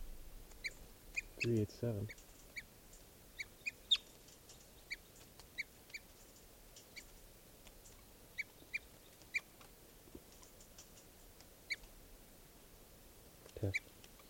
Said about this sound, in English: That hawk is still here, and these are the alarm calls.